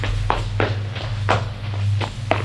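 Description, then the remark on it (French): Quick footsteps of a trembling girl running toward others across a hard floor, six or so distinct thuds at a brisk, slightly uneven pace over a steady low hum. “La porte s'ouvre. Elle est toute tremblante. Elle court vers eux.”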